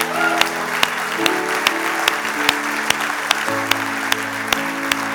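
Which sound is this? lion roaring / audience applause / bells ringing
audience applause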